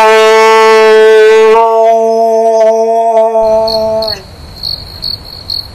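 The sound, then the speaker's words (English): A long, steady howling tone fills the first few seconds, then gives way to crickets chirping in rhythmic pulses over a soft hiss, clear. “Wow, the Crickets really came out in full force to support their champion.”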